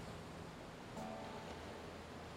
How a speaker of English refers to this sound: You hear rushing water.